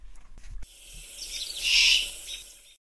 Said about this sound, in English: Then the baby owl stopped calling.